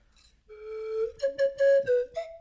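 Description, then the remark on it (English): A professional slide whistle plays: a sustained tone that slowly glides upward, then a series of short, choppy notes stepping higher, fairly loud with no talking. “That's why that's a professional slide whistle.”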